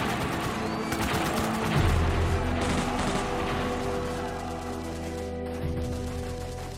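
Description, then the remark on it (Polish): Dense battle noise: rapid rifle gunfire crackles throughout while deep cannon booms and rumbling bomb explosions roll underneath, loud and continuous with no pauses. “Strzały z karabinu i dział, wybuchy bomb.”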